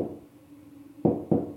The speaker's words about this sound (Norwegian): Jeg satte meg ned på do, og etter kort tid banket det på døren.